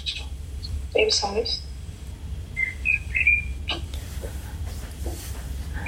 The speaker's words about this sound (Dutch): Ik hoor allemaal vogelgeluiden. Zijn dat vogels die jullie zelf hebben of staat het raam gewoon open? Het raam staat open. Ja, dat is heerlijk hier. Ja, ik hoor het.